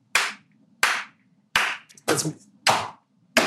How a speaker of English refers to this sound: Let's just give that one a clap for sure. That was great.